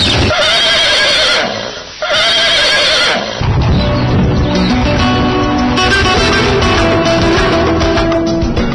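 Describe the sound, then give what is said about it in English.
A Turkmen horse whinnies loudly at a horse competition on the Sufyan Plain in the town of Kalala, its neighs rising and falling over several seconds, with hoof clatter and busy background noise from other animals. “Turkmen horses competed in 8 groups of the Sufyan Plain, located in the town of Kalala.”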